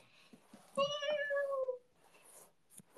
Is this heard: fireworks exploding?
no